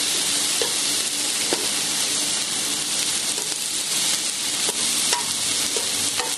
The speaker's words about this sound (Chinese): 大約咧三分鐘到就應該 OK 噶啦。煎到佢兩邊咧金黃就得，唔一定話要煎到咧個蝦完全熟透曬，因為一陣間咧我哋都仲會咧係佢落翻個鍋度嘅。